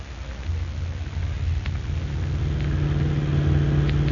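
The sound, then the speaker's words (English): A car engine runs steadily for a few seconds, a deep, continuous rumble that swells slightly louder as it goes on, with a faint hiss over it and no voices. “Get my car out of the garage. Hurry up.”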